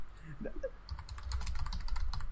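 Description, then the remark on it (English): Rapid clacking of keys on a computer keyboard, a quick irregular run of taps, with faint voice sounds briefly at the start before the typing takes over. “Oh, I hear typing.”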